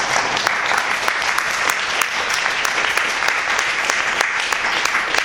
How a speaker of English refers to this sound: so we'll just ask him for a round of applause.